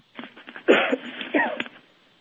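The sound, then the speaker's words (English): A person coughs twice in quick succession, two harsh, throaty bursts about half a second apart, fairly loud, with short breathy sounds before and after and no talking. “Okay, just I have to cough.”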